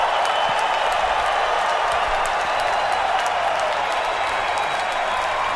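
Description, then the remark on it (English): A large crowd cheers and applauds the Nature Boy without letup, a dense, steady roar of clapping and shouting that stays loud for the whole stretch, with scattered whistles and yells rising above it. “Oh, God. They're not stopping.”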